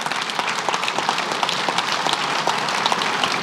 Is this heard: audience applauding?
yes